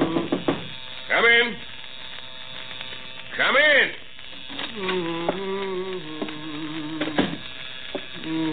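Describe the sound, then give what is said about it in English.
An electric razor buzzes steadily for a few seconds as a man shaves in his office, with a couple of brief rising-and-falling tonal sweeps and light knocks before it. “I'll be finished shaving in a second.”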